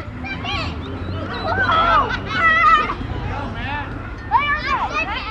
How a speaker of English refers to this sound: Similar fears are heard at a playground near downtown Los Angeles, where kids swarm over slides and swings and parents watch more closely than ever.